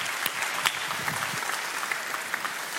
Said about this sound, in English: Come on, let's clap to Jesus for a few moments.